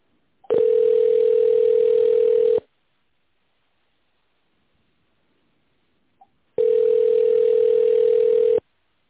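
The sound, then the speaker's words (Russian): Two long, steady telephone ringback tones, each about two seconds, separated by roughly four seconds of silence; a single low-pitched hum with a faint click just before the second ring. No voices. “Если вы знаете внутренний номер сотрудника, наберите его в тоновом режиме или дождитесь ответа.”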